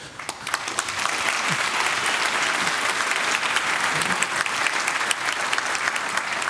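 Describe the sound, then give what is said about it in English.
An audience claps steadily for several seconds, a dense, even wash of many hands at moderate loudness, with no voices rising above it, applauding two project co-founders seated in the front row during a talk. “They deserve an applause anyway.”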